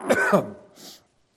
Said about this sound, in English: Let me get these coughs out.